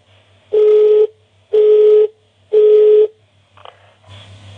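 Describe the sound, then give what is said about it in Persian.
A telephone call tone sounds three times in steady, evenly spaced beeps, loud, followed by a faint click and low rumble as the line goes unanswered. “الو دیگه کی به این تلفن جواب بده؟”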